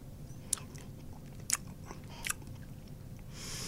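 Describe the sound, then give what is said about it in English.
Chewing on a sticky traditional honey sweetmeat, with three crisp crunching bites spaced about a second apart over a low, steady background hum and no talking. “And this is probably, if you go anywhere in the world and you ask for a traditional sweet meat, this is probably what you're going to get. Okay, here we go. I'll have a small taste.”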